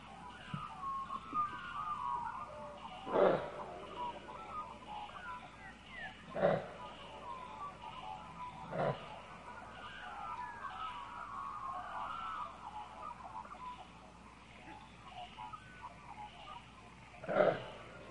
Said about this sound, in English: Kangaroos growl. Really? Do we have a kangaroo sound here? Kangaroo sounds.